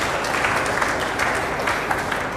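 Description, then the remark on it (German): Sustained applause from an audience, a dense, steady patter of many hands clapping at once, moderately loud and continuous with no voices standing out. “Das lohnt sich, das auch wirklich bekannt zu geben und ist, glaube ich, an der Stelle auch ein Applaus wert für alle die, die sich da intensiv eingebracht haben.”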